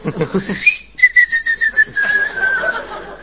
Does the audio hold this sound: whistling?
yes